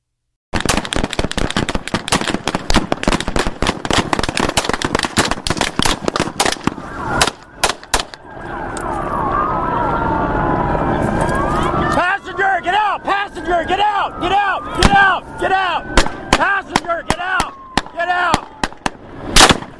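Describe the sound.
Loud, rapid gunfire rings out in dense volleys of sharp cracks, pausing briefly before more bursts erupt over frantic shouting voices and a wailing, siren-like tone.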